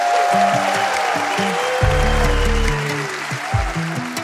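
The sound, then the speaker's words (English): An audience at an evening event applauds steadily for several seconds, a dense continuous wash of clapping, while low, stepped musical notes play underneath. “This is where we applaud.”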